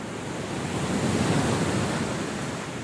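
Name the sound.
ocean waves and surf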